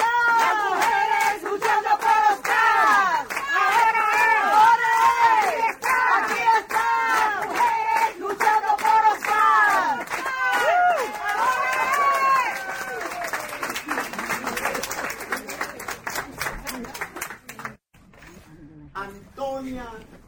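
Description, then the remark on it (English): A large crowd of protesters in El Barrio chants loudly in Spanish in a steady, repeating rhythm during a 34-minute monthly protest chant, shouted phrases overlapping, before the chant breaks into scattered clapping and cheering that drops away near the end. “We started in El Barrio, and we chant for 34 minutes now because it's 34 years, and it sort of sounds like...”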